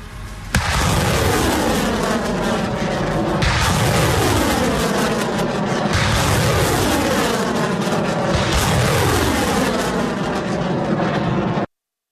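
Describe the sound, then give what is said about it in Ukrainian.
Ukrainian military Uragan and Bureviy multiple rocket launchers fire a salvo at Russian positions in Kharkiv Oblast, three rockets launching about three seconds apart, each with a loud roaring whoosh that blends into one continuous thunderous rush with no voices. “Із реактивної системи «Ураган» та двох систем «Буревій» українські військові зараз будуть вести вогонь по позиціях російських військ у Харківській області.”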